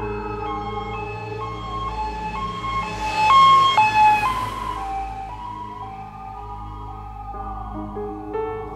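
An ambulance on full emergency call, taking a patient to Helsingør Hospital, its siren wailing with a two-tone pattern, stepping between high and low pitches repeatedly, swelling louder midway before easing off, over a steady low engine rumble. No one speaks.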